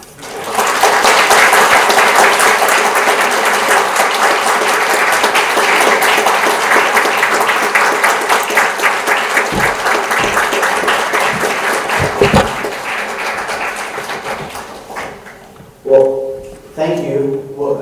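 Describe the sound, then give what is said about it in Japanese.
A large audience claps steadily in a loud, dense wash of applause for about fifteen seconds, welcoming a guest speaker to the pulpit at a church event in Japan, then it dies away and a man starts speaking. “どうぞ皆さん拍手を持って先生歓迎していただきたいと思います。”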